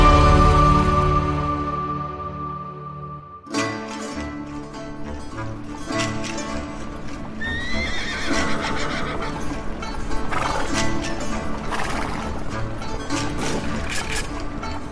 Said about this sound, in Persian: از اسب‌های سلطنتی قاجار و تفرجگاه شاهان تا شیهه اسب‌های نظامی و صدای تیر و تفنگ